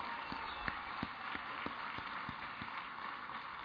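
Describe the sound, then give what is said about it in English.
A crowd gives a round of applause for the adult helpers who work with the kids, clapping steadily in a dense, even patter of many hands with a few sharper individual claps standing out, and no one speaking. “Hey, let's give those adult helpers a round of applause as well.”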